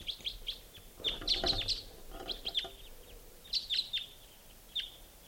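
flock of birds calling

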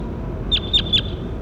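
bird call

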